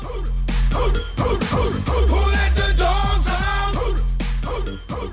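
An upbeat pop song released in 2000 with a pounding beat and a chorus of shouted, bark-like vocals, loud and full from start to finish, with bright harmonic voices and steady rhythmic hits throughout.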